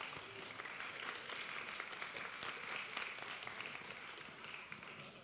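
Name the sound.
audience applause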